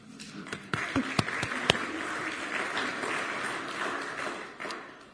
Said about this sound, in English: As we're going on a journey, sometimes it's good to remember just how far you came. So do you want to give yourselves a clap?